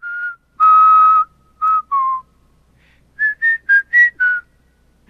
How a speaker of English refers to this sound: with his scarf wrapped around his head, is whistling.